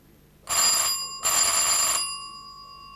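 Someone rings an electric doorbell at the door of a home in two loud bursts, its clapper rattling rapidly against the bell, then a metallic ringing tone lingers and fades after the second burst. No one speaks.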